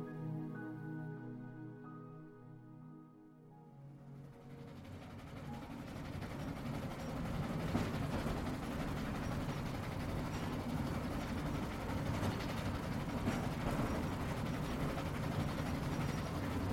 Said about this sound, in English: So now, imagine the warmth of the Mediterranean sun shining over you, and conjure the rhythmic sensation of traveling on a lazy provincial train.